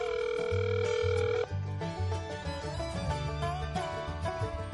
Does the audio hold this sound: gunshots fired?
no